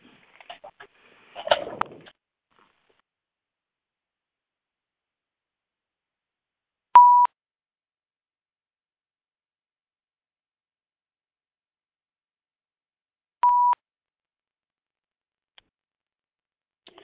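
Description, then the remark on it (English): A brief rustle of handling, then two clear electronic phone beeps spaced several seconds apart as the phone is being muted, each a short steady tone in otherwise near silence. “I'm going to go ahead and mute the phone and get us started.”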